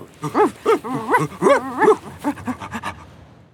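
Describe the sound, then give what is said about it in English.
A team of five sled dogs barks and yelps excitedly in quick overlapping bursts, loud, with high whining cries mixed in, ready to pull the sled on a sled dog ride. “A team of 5 dogs is going to pull the sled. They're ready to go.”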